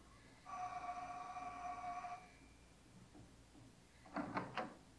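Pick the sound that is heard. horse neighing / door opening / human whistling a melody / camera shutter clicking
door opening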